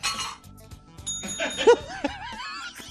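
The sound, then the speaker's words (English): A comedian imitates a bell with his voice: a bright, bell-like ring with high sustained tones and a few light clinks, followed by swooping, warbling vocal sounds and soft chuckles. “Can you do a bell?”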